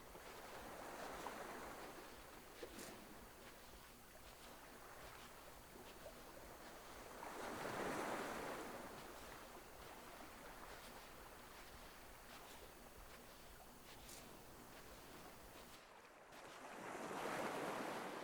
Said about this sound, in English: The sea is calm. Small waves glide slowly over the flat beach.